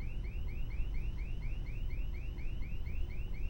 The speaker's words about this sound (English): No one has ever set off the alarm before.